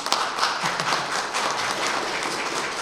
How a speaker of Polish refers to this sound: Proszę tutaj o brawa dla naszej młodzieży.